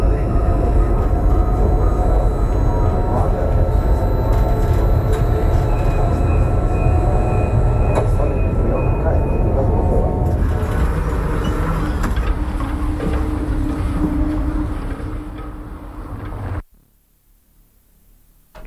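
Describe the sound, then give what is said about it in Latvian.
A composition built from sounds of old-type Liepāja tram cars: a steady, loud rumbling of wheels and motor with metallic whines and squeals layered on top, ending abruptly in near silence. “kompozīcija no vecā tipa Liepājas tramvaja vagonu skaņām.”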